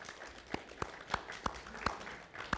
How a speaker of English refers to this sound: I can understand why they would clap for me like that, but...